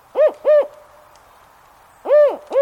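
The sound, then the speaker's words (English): A spotted owl deep within a northwest forest gives its four-note hooting call, distinctive of the species: two quick hoots, a pause of over a second, then two more. The hoots are low, clear and fairly loud, with no voices. “A spotted owl hoots from deep within a northwest forest, calling out a four-note sequence distinctive of this species.”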